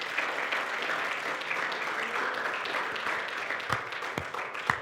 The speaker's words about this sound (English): I hope you won't mind if we could just express gratitude collectively with a hand clap of praise. Come on, bless the Lord in this place.